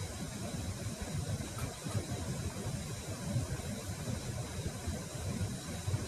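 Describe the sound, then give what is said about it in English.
A steady, low engine-like rumble hums on without pause, like a washing machine or motor running, heard over a Zoom call, fairly loud and even throughout with no voices. “There's sort of a spaceship engine sound happening. So, thank you. Or a washing machine.”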